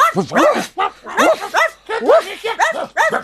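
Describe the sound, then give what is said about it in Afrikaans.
Several dogs sitting in front of a shop bark over one another in a rapid, continuous chorus of sharp, high yaps and woofs, loud, with barely a pause throughout. “Al die honde gaan sit voor die winkel en blaf.”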